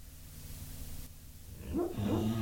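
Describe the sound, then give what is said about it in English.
A dog named O'Neal whimpers while dreaming in its sleep, soft, high, wavering whines that start about two-thirds of the way in, following a stretch of low steady hum. There's no talking. “O'Neal's having a dream again.”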